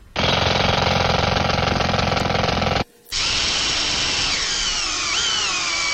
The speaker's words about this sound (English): Now, I'm going to use a drill on these because I want them to look a little nicer. So what I'll do is just take a punch here, and I'll make a little hole through to the board for everywhere that I'm going to drill.